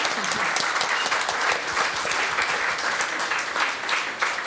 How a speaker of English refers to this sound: Can we just say a big round of applause for Jose?